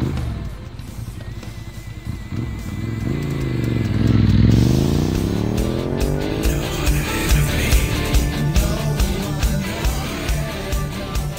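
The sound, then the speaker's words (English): A motorcycle engine revs up, its pitch swooping down and then climbing again as the throttle opens, a loud steady roar with no voices. “Rev up your motorcycle and join our Rough Ride Motorcycle Charity Ride.”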